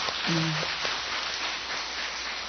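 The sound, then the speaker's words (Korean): A church audience applauds a missionary, with dense, steady clapping that holds at an even, fairly strong level for the whole stretch. A brief low hum or voice sounds under it near the start. “남은 날들이 축복이 되도록 다시 한번 힘있게 박수해주시면 고맙겠습니다.”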